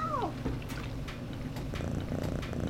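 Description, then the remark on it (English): A cat named BB, just caught under a laundry basket, gives a brief, falling meow at the very start. She then settles into a steady, low, rumbling purr as she is scratched behind the ears, with no talking. “Let's return this cat already.”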